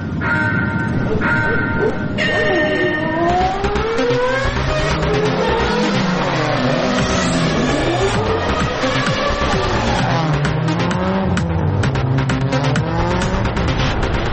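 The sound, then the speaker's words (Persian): A loud engine revs hard again and again, its pitch climbing and dropping in repeated surges over a continuous roar, with a brief tire-squeal-like whine near the start. “میگازه چه میکنه”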